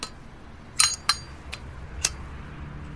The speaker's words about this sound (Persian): راهمو کچ کردم و برگشتم توی ماشین، منتظر نشستم تا اونا برن. یه سیگار روشن کردم.